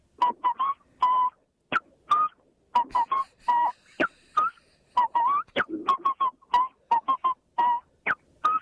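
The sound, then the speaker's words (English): A human whistler imitates bobwhite quail calls, shaping short, clear, upward-slurred notes into the melody of Happy Birthday, with brief gaps between phrases and no talking. “If today's your birthday, then on this special occasion, Bob White, and with a will, we're going to chirp happy birthday to you.”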